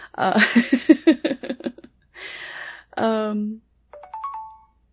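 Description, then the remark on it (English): A mobile phone set to airplane mode chirps with a short burst of electronic ringing tones, a falling sweep then a few rising beeps, heard just after a person stops talking. “I don't know why my phone just did that. I have it on airplane mode.”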